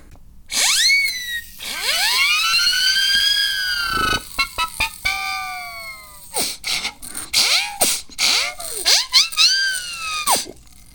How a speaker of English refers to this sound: And that's how you clip a mic with a siren whistle.